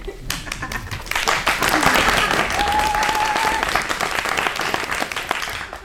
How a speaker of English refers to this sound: The show is just about ready to begin, so let's quickly fill you in on what's expected of you as a studio audience. Applaud whenever the spirit moves you.